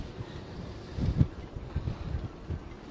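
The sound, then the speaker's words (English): Wind gusting through boat rigging at Eliason Harbor on a Monday afternoon, a steady low blustery rumble that swells in a stronger gust midway, with a faint airy whistle over it and no voices. “You can hear it whistling through some of the rigging.”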